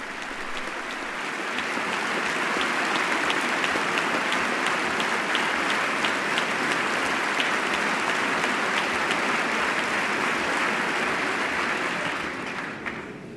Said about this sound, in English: Dikembe Mutombo is sitting in the box, now standing, actually towering, we might say, over the First Lady. He's quite tall and receiving a hearty round of applause from the chamber. Big smile on his face.